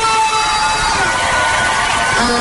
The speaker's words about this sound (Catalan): Please, put your hands together for Miss Amy Schumer!